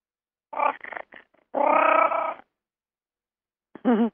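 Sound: cat vocalizing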